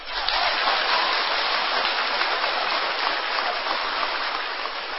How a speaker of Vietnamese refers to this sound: Thì rất mừng khi các con đều vỗ tay. Vỗ tay rất giòn như pháo nổ.